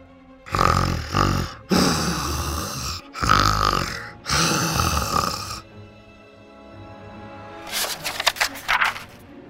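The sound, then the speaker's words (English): Loud, exaggerated snoring in several long rasping bursts, separated by short gaps, followed by a quieter stretch and a rapid fluttering snort toward the end; likely a voice performing the snores. “The wolf was so full, he fell asleep right away, snoring very loudly.”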